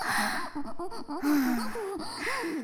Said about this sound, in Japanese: オタクのくっさい息、はぁはぁってしちゃってさ。